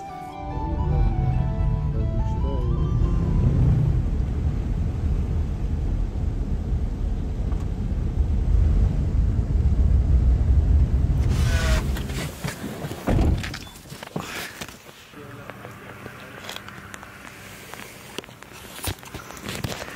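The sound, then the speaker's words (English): Heavy rain pours down at a castle in a loud, dense, steady roar, then cuts off abruptly with a thud as people escape into a car, leaving a much quieter, muffled patter with scattered knocks. “Literally, as Matt said this, the rain came down pretty hard, so we quickly escaped into the car.”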